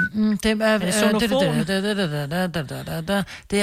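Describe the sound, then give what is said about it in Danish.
A voice whistles the Nokia ringtone melody, a short, bouncy tune in a quick run of stepped notes with brief gaps, loud and alone without other talk. “Og jeg tror, jeg fløjter den.”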